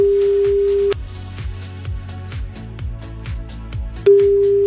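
A steady outgoing phone ringing tone sounds for about a second, gives way to a stretch of rhythmic thumping beats, then the ringing tone starts again. No one speaks.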